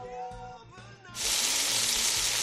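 food sizzling

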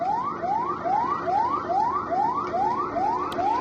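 alarms sounding

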